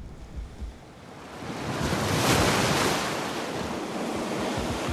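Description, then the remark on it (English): Whitecapped ocean waves break on a beach, a broad rushing surge that swells to a peak near the middle and slowly washes back, with a steady roar of surf and some wind underneath. “At 9 o'clock, the group gathers about the fire, squinting beyond the whitecaps.”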